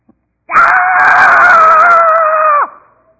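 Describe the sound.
An adult voice imitates a four-year-old boy's angry scream: one loud, sustained, shrill shriek lasting about two seconds, heard alone, cutting off with a quick downward drop.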